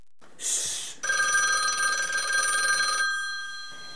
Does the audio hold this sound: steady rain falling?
no